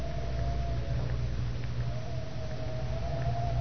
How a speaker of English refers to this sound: Gosh, it's cold out here on the lawn. Wind cuts through you like a knife.